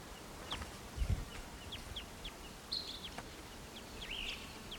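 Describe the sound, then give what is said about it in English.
A western wood pewee calls softly, giving two burry, downslurred notes among scattered short high chirps, with a low thump early on and no voices. “Oh, I'm sorry, it's a western wood peewee.”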